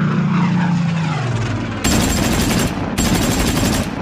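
A propeller plane roars past overhead, its engine drone sliding down in pitch, then gives way to two loud, sustained bursts of rapid machine-gun fire as two aircraft strafe Jacques Doriot's car on the road from Lake Constance, 22 February 1945. No one speaks.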